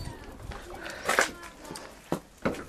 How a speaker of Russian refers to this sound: Снег скрипит.